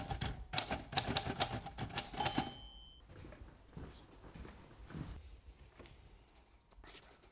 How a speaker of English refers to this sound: Unlike most English gentlemen of his time Needham preferred typing to handwriting Almost all of his writing was done with a typewriter with just his signature handwritten.